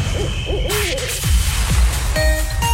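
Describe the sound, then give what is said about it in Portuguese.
An owl hoots in a short radio station jingle for Rádio Povo, the calls layered with swooshing effects and a bright electronic tone near the end, loud, with no one speaking. “Rádio Povo. Povo Coruja.”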